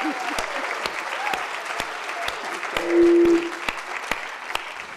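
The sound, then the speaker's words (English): An audience at a McCloskey Speaker Series event applauds Alice Waters steadily, a dense patter of many hands with a few sharper individual claps standing out, and a brief tonal hum rising partway through. “So let's all applaud her for coming.”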